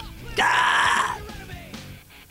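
A single loud burp, belched on a bench, bursts out and drags on for nearly a second with a raspy, throaty tone, then fades into quiet.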